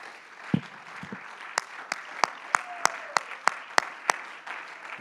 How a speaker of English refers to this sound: Clap your hands unto the Lord in the name of Jesus.